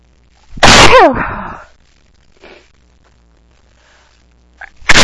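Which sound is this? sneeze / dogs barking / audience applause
sneeze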